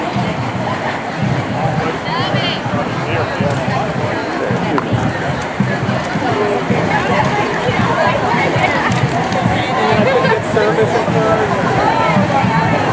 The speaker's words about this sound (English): There's a whole mess of people out in Fayetteville Street carrying signs. There's a lot of red t-shirts and polo shirts. These are all teachers.